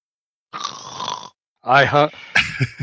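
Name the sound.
man snoring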